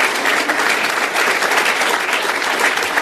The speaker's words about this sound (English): Let's give him a round of applause for the work that he's done, too.